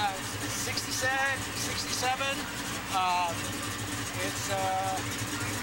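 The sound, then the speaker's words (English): The built, completely redone engine of a 1967 car idles with a steady, low rumble at a car show, continuous throughout, while a man talks over it. “It's got a built motor, as you can hear.”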